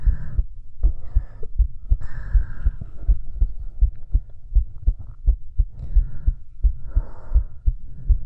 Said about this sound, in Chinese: 为什么老公，老公为什么我心跳这么快？